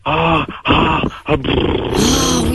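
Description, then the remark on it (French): A voice imitates a car engine with a loud, buzzing, growling drone. It breaks off briefly twice, then carries on with a rising, revving pitch near the end. “Est-ce que tu veux que je te fasse la voiture en même temps que je tourne?”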